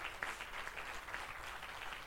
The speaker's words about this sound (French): Remercier le groupe de travail qui s'est mobilisé et qu'on peut applaudir très, très fort.